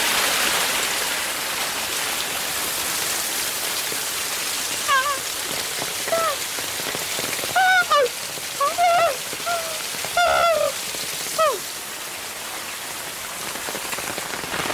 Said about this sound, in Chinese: 啊，小瀑布，骑下脚了，看看，啊，好凉快